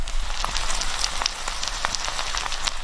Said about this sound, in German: der Wok brutzelt auch schon so ein bisschen. Lass mal die Hörer was hören. Warte mal, ich halte mal mehr Mikro näher ran.